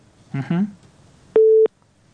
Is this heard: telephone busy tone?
yes